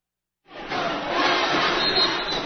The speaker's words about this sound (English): Bearcat fans continuing to make noise, including the Teaks, behind the basket to our right at the north side of Bearcat Arena. As they've been having some fun since the very start of the women's game